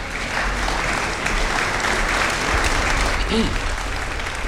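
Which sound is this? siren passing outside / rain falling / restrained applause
restrained applause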